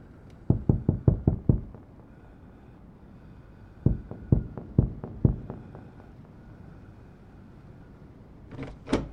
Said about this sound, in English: Knock, knock. Grace, can I come in?